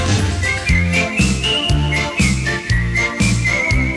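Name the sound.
human whistling a melody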